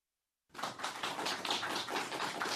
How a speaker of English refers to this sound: And there is more applause from the interns from Magna